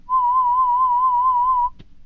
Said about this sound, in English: So let's just do the beeping sounds. Raise your hand every time you hear it, okay?